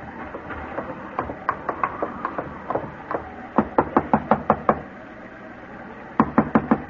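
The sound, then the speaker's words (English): Repeated knocking on the wooden door of a home, several insistent bursts of sharp raps in quick rhythm with short pauses between, clear over a faint background hum. “Oh, now what? Try the door.”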